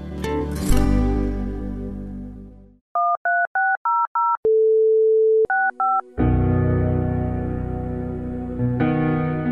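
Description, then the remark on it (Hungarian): A quick series of dual-tone telephone keypad beeps, a steady dial tone, then a few more beeps dialing an extension, clear, set between louder music passages with no one speaking, in a Mária Rádió announcement about donating by phone. “A 13600-as telefonszám felhívása után a 65-ös mellékbeütésével tudja támogatni a Szüzanya Rádióját.”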